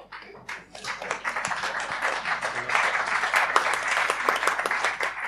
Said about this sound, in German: das war dein Applaus.